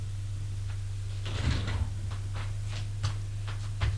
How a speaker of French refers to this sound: Ouvre la porte, éclaire et descendre les escaliers usés, ça sent mauvais.